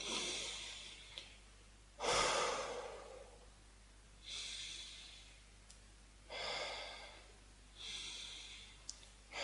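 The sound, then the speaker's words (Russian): Slow, deep breaths in and out, repeated about three times in a steady rhythm, each a broad airy rush, with short quiet gaps between them and no talking. “То есть, я сделал вздох-выдох, вздох-выдох, вздох-выдох.”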